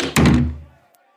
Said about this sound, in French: Eunice raccompagna les trois renards à la porte. Bonne chance, messieurs. Dit Eunice en fermant la porte.